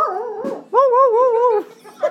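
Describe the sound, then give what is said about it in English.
A hound dog named Trini lets out a drawn-out, wavering baying howl, fairly loud, preceded by a shorter whining note and followed by a brief yip. “Shitty, that was Trini, that was a hound dog sort of.”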